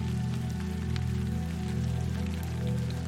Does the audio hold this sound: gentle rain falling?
yes